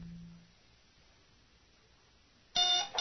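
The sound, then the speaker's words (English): A ship's alarm buzzer squawks loudly and harshly after a stretch of near silence and a faint low hum, blaring in a short burst and starting again at the very end. “The alarm buzzer squawked wildly in Tendra Rezant's ship”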